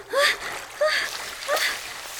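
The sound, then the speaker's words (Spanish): Three quick bursts of splashing water in a pool, moderately loud and close, spaced about two-thirds of a second apart, with a tonal, voice-like quality mixed into each splash. “Justo entonces se escuchó un chapoteo en la alberca, cerca de donde ella estaba, y nadó hacia el ruido para saber qué ocurría.”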